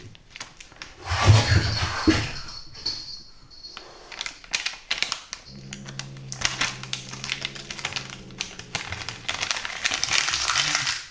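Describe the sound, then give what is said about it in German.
A cat growls low and steadily for several seconds after a burst of rustling and clicking noises, with light tapping continuing underneath. “Die kann knurren, ne?”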